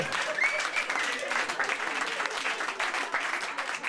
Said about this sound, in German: Einen Applaus für ihn,